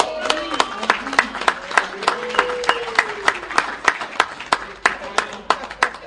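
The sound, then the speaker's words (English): An audience applauds as the first speaker is introduced, with sharp, uneven claps rising and falling across the whole stretch. Voices murmur and call out underneath the clapping. “I kind of like that applause thing, baby.”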